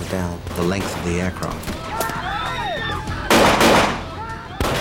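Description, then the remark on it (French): Several sharp gunshots ring out at irregular intervals inside an aircraft cabin during a hijacking, a hijacker firing from the rear of the plane, with one heavier, sustained burst partway through, mixed with agitated voices and shouting. “Il y a eu de nombreux coups de feu, et le pirate qui se tenait à mes côtés a ouvert le feu depuis le fond de l'appareil.”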